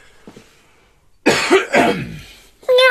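A loud throat-clearing cough in two rough bursts after a quiet lead-in, followed by a brief high-pitched, tonal squeak at the end, a person miaowing after the throat-clearing cough.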